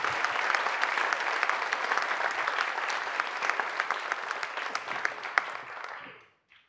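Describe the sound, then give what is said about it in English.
An audience breaks into a steady round of applause to thank everyone and the leaders at the end of a week-long event, dense overlapping claps at a fairly loud level for about six seconds before quickly fading out. “And I think we should give everybody a big, big round of applause to say thank you.”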